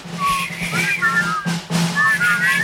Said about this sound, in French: Bon, arrêtez. C'est épouvantable. Alors resifflez alors, c'est meilleur.